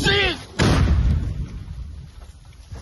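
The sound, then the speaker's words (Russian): A short raised voice is cut off by a sudden, heavy artillery strike on a volunteers' evacuation car in Kostiantynivka, its deep booming rumble and debris noise trailing off slowly over the next two seconds. “Люди успели выскочить из машины перед ударом.”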